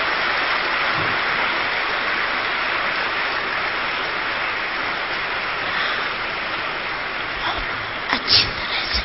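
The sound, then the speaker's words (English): An audience claps together in a steady, dense wash of applause that holds at an even level throughout, with a few sharper bursts near the end. “So you can clap for them. And everyone is clapping.”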